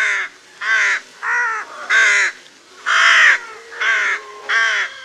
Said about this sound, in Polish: Chrapanie gawrona jest chrapliwe i wydawane płynnie, bez łączenia sylab w wyraźne serie.